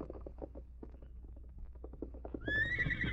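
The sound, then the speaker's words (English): Hooves clop in a steady, uneven rhythm for a couple of seconds, then a horse lets out a loud, high whinny that rises and wavers at the end. “Get off that horse and go inside, Redskin.”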